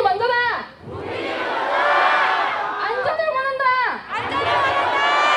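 Some 1,000 demonstrators chant in unison in the streets of Seoul, South Korea, on a Saturday, rallying against the influx of Yemenis; loud rising and falling shouted phrases such as "We want safety" repeat in a steady rhythm, with a brief dip between chants.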